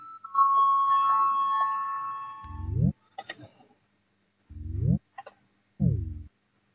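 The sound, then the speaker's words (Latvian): A parliamentary voting bell rings before a vote on a faction's proposal, with a bright, sustained, slowly fading tone, followed by three short, low electronic buzzing tones spaced apart, heard clearly without speech. “Lūdzu, zvanu, balsosim par sesto frakcijas saskaņu priekšlikumu.”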